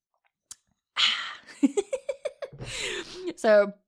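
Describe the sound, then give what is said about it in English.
A breathy slurp of tea from a cup, then a quick run of soft gulping pulses and another airy sip, ending in a short, contented voiced sigh. “Actually, I grabbed myself a cup of tea. I'm going to have a little sip. Let's do some tea drinking ASMR.”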